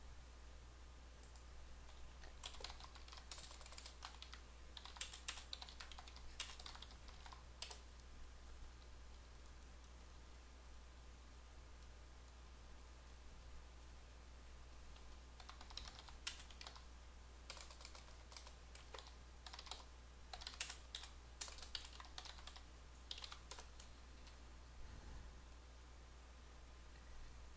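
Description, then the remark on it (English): Quiet keyboard typing as tasks are entered into a list, in two bursts of rapid, irregular key clicks separated by a pause, over a steady low hum with no voices. “You'll be typing over somebody else if you don't.”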